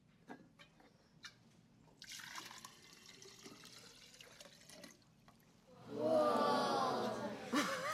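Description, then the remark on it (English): Water pours into a glass for a demonstration of light refraction, a rising gurgling stream that grows louder and brighter as the glass fills, preceded by a few light clinks and quiet handling noises. “But what if we added water?”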